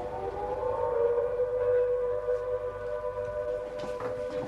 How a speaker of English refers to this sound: When the bombers flew overhead and the sirens sounded, the heads of the armed forces and Prime Minister Winston Churchill needed somewhere safe from which to run the war.